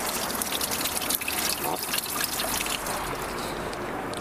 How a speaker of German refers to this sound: Wow, hier plätschert's.